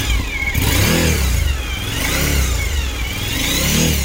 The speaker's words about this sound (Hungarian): És akkor én most beindítom neked, egyébként nem kell hozzá se kuplongolni, se semmi. Ilyen szép hangja van. És lehet hallani ezt a V2-es kis csörgés, kicsit ilyen ciripelős, de nekem tetszik.